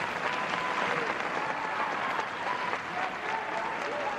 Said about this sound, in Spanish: Con este cariñoso aplauso, invitados y público han recibido en pie a la familia real antes de comenzar el solemne cambio de guardia.